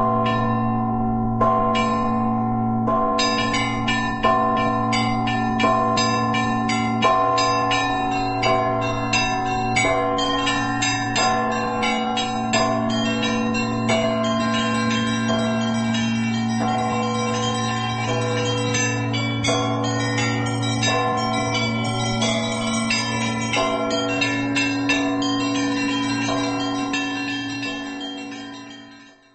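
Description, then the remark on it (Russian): A Russian Orthodox church bell peal, the 'Riza Gospodnya' (Robe of the Lord) ring played by a bell ringer, rings out continuously, a deep steady bell tone layered with rapid, rhythmic clusters of smaller bells chiming, loud, before fading at the end. “Это был звон Ризы Господня”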